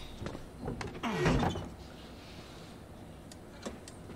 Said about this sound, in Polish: A ty zamknij drzwi.